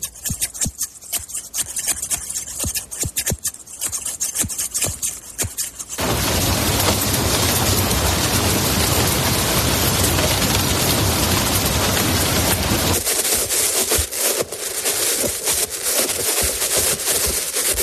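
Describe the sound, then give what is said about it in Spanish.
Quick crisp snips of hairdresser scissors, then a steady loud wash of rain, and finally sharp metallic knocks from a hand in metal gloves, with no voices at all. “En este caso, se trata de unas tijeras de peluquero, la lluvia y los golpes de una mano con unos guantes de metal.”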